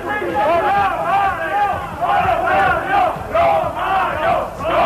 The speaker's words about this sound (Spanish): Que salgan los ladrones. Es un ladrón, son los gritos de la afición de Valencia contra el presidente valencianista.